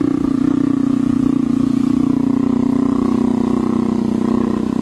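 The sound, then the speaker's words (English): An adult jaguar purrs loudly and steadily while being scratched behind the ears, a deep, continuous rumbling drone with a throbbing rhythm that never lets up across the whole recording. “I mean, and this is a vicious adult jaguar being scratched behind the ears and purring.”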